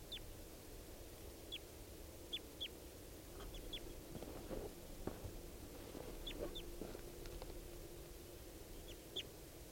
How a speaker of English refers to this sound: More wild birds coming in. And the male here, who I've got down, is mottled with yellow. Yellow and red. And he seems like a full adult. So recording these birds I've got here.